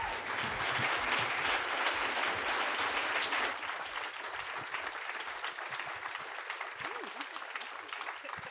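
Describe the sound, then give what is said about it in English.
An audience at the Toronto Public Library's Appel Salon claps steadily in a dense, sustained round of applause that stays strong, then eases slightly in intensity after a few seconds while continuing throughout, at a live event on the novel Moon of the Turning Leaves. “It was recorded at the Toronto Public Library's Appel Salon in front of a very enthusiastic crowd.”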